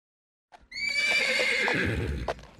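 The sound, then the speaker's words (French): A horse lets out a loud, drawn-out whinny that wavers and falls in pitch, with low thumping hoofbeats clopping underneath, as a rider mounts it and sets off for town early in the morning. The sound starts after a brief silence and continues to the end. “Le jour suivant, très tôt, le père monte sur son cheval et part pour la ville.”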